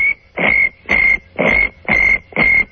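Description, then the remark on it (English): A person imitates a lower-frequency cricket chirp, whistling a steady high tone over a throaty rolling rattle made with the tongue in the back of the throat, in six evenly spaced, fairly loud bursts, with no talking. “You guys could make your own cricket sound that would be a lower frequency.”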